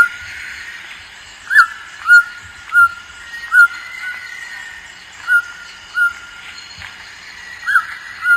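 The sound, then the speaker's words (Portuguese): A channel-billed toucan, named as Ranfastus tucanus (tucano assobiador), gives short, mid-pitched croaking calls, about nine in a row at an uneven pace, over a constant background of insect hiss and faint birds. “O tucano assobiador ou Ranfastus tucanus.”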